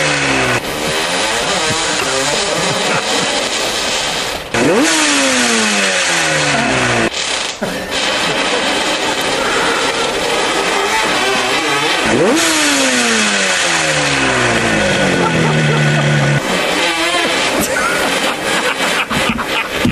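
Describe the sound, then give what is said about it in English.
Loud motorcycle engines rev repeatedly on a muddy track, pitch sweeping up and down in sharp, rhythmic bursts, with one rough, sputtering engine among them that needs a tune-up, continuous for the whole stretch. “Clearly, one bike needs a tune-up, clearly. Throwing spark plugs, revs and wilting flowers.”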